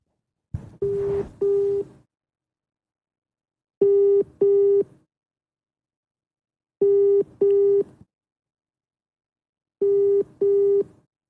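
outgoing phone call ringing

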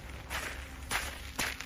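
footsteps walking

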